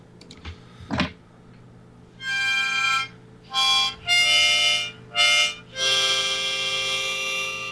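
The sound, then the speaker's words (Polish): A short improvised jingle variation: five bright, buzzy bursts of sustained tones with rich overtones, the last held longest, after a few soft knocks at the start. No one speaks. “To zrobimy, zrób ten, ja zrobię trochę małą wariację. Zróbmy jakby jingle, tylko no.”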